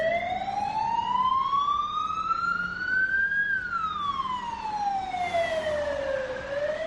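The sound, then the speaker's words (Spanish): A police siren in Badajoz wails steadily, its pitch sweeping slowly up, then down, then starting to rise again, loud over a rumble of road traffic, with no voices. “Los protagonistas han sido los tiroteos y también las sirenas de policía.”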